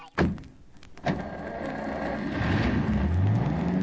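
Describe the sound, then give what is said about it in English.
A car engine starts with a couple of sharp thumps, then settles into a steady rumble before revving up, its pitch climbing as the vehicle pulls away. Nobody speaks. “Quick, into the car.”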